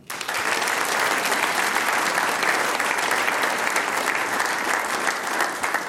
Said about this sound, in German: Und die …, die 6 Herren, kriegen natürlich auch noch einen großen Applaus. Sie spielen uns dann auch aus.